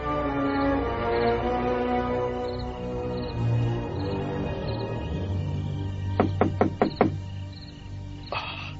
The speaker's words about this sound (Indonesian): Ada orang mengetuk pintu. Siapa malam-malam begini menggangguku?